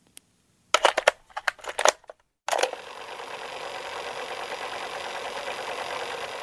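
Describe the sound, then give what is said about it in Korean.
Cassette tape rewinding: a few sharp mechanical clicks, then a clunk and a steady, even whirring that runs on to the end. No one speaks. “카세트 테이프 감는 소리도 이제는 듣기 어려운 것 같아요.”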